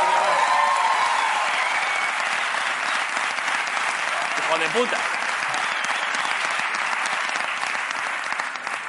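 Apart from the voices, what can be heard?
audience applause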